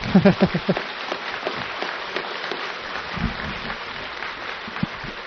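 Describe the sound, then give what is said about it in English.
An audience claps loudly and steadily at the end of an evening talk, a dense wash of many hands that carries on without pause. A brief voice sounds at the very start before the applause takes over. “If you're going to clap, clap with everything you've got.”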